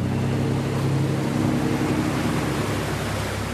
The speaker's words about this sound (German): Jetzt fährt das Begleitschiff auf 2 Schlepper zu, die gerade dabei sind, einen Kilometer langen, luftgefüllten Gummischlauch in die Breite zu ziehen.